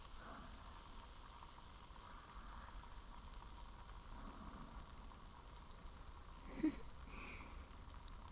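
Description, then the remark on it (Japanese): A soft, steady fizzing crackle of tiny foam bubbles popping, quiet, with one slightly louder pop near the end and no voices. “パチパチ、泡がはじけて、不思議。”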